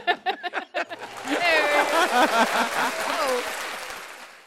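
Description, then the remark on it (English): An applause sound effect: a few sharp claps start things off, then swell into sustained loud applause from a crowd, mixed with cheering and whooping voices that ride over the steady clapping until the end. “Hit applause.”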